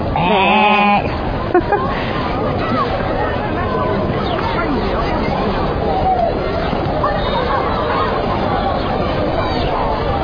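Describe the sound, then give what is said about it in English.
A person mimics a sheep with a short, wavering bleat up front, then a busy murmur of overlapping voices and background chatter fills the rest. “Right, and what does a sheep go?”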